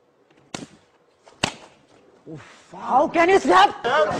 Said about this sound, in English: How can you slap me, sir?